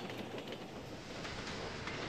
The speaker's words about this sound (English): What about Thomas's wheels? In the countryside, Thomas's wheels make a clickety-clack sound on the track.